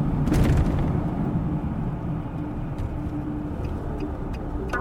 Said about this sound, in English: We drive back into the park. A moment later, we pull up next to my car, which looks very much not broken into.